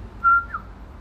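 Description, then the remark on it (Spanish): A short human mouth whistle, a family's signal call once used by a father to call the mother: one steady high tone held briefly, then a quick upward-bending second note, clear against a quiet background with no talking. “Y yo soy la única que puede chiflarle así como chiflaba mi papá.”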